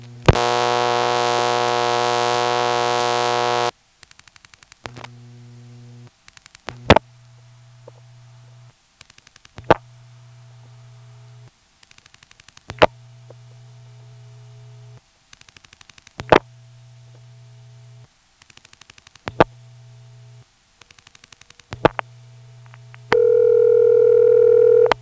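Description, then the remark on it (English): A telephone call to a 946 ringing number: a loud, buzzy dial tone, then sharp switching clicks over a low, steadily repeating ringback tone, ending with a higher steady tone. No one speaks. “Speaking of 94, let's call a 946 ringing number.”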